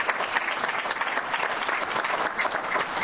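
A room full of people claps steadily for counselors, a dense, sustained patter of many hands with no pauses, fairly loud, with no speech over it.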